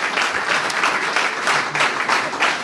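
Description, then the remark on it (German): Thunderous audience applause, a dense steady roar of many hands clapping at full volume for a few seconds, with no voices standing out. “Ich bin noch nicht ganz sicher, weil tosender Applaus, ich höre noch nicht du.”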